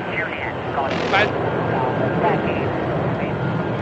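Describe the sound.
A loud, steady roar of the engines of a white delta-winged British Concorde supersonic jet taking off and climbing away, bound for Bahrain, fills the whole stretch, with a man's voice talking over the continuous din.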